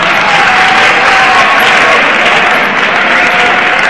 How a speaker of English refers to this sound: Okay, save the applause to the end. Because you're waking up the guy. You're waking up the guy sitting next to you, so no applause.